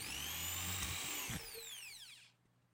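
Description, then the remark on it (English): A power drill drilling through timber whirs loudly with a steady high-pitched motor whine, then its pitch slides down as it winds to a stop after about two seconds. “I'm going to drill through there, right?”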